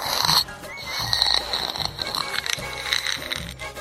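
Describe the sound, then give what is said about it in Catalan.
A child makes loud, rough snorting and breathing noises, several bursts in quick succession with a harsh, nasal, pig-like rasp and no talking. “Respires fort, eh?”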